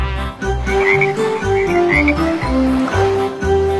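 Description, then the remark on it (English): Rhythmic frog croaks repeat over a bouncy musical backing with a steady, pulsing bass, the croaks loud, coming in quick bursts roughly every half second. “Then there were two green speckled frogs.”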